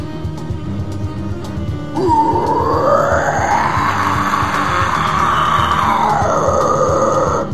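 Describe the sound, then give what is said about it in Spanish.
A demonstration of the open guttural scream technique, with mouth and throat open: a single loud, raspy scream with a rough, gravelly texture starts after a quiet moment and is held for about five seconds, its pitch climbing slightly before easing back down. “Y llegar de esa forma, como son como gritos que tienen como más arena, digamos.”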